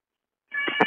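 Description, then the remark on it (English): A single meow from an unhappy cat that wants to go outside at night, starting abruptly after a brief silence and cut off mid-cry, clear with no talking. “Well, we have a very unhappy cat who wants to go outside and can't go be out at night.”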